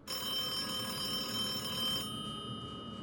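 A telephone rings continuously with a bright, metallic bell tone, sustained and steady for about two seconds before cutting off, fairly loud, with no voices present.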